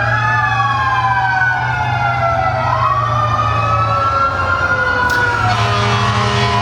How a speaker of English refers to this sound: We got sirens in the city. Probably benign.